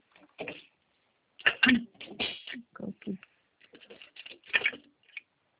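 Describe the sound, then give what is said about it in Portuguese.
Irregular bursts of rustling and clattering as someone grabs and handles paper and a pen to write a note, a handful of short scrapes and taps spread over several seconds. “Eu vou pegar um papel aqui. Peraí. Só pegar uma caneta aqui.”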